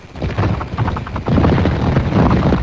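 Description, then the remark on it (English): A cicada, held in a hand so its wings can be heard, buzzes its wings in a loud, rough whirring flutter that pulses rapidly and swells stronger partway through, continuing steadily with no one speaking. “I got to hold him so you can hear his wings.”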